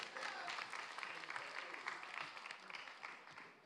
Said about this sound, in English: I love that that's like the loudest clap moment.